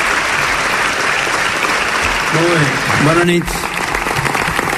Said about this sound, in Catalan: Ara aplaudiments per Ernest Maragall, que veiem que es posa les ulleres i també farà una breu intervenció.